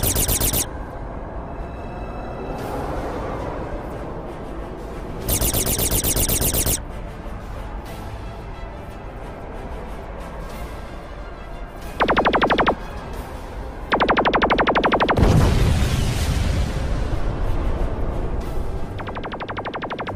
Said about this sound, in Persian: دارم بهمون شلیک میکنن قربان. موتورهای سمت چپ غیر فعال شده.